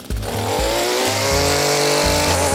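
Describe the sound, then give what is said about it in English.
A gas lawnmower engine runs loud, a steady buzzing drone with a throbbing low rumble, its pitch creeping slightly upward as it revs, in a clip from the TV show This Old House as a lawn is mowed. No one speaks. “You've got a couple lawnmowers that don't have an engine, but today, what do you say we use some horsepower?”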